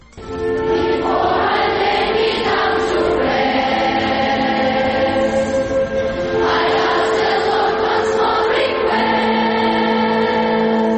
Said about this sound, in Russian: Три сотні дівочих і хлопчачих голосів, співаючи американську пісню, доносять молитву до Бога про якнайшвидше завершення голоду та війни, про те, що кожна дитина може і повинна відчути здібності, скориставшись якими допомагатиме наближенню миру.